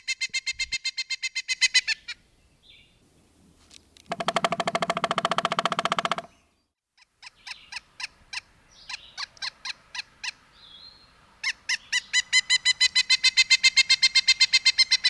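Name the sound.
pileated woodpecker call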